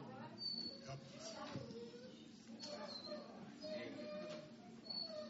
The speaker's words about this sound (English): I hope that dog's okay, yes? Did someone step on a dog or no? Oh, has to go to the bathroom.